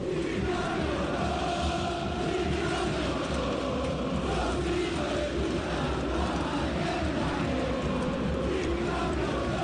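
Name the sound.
stadium crowd chanting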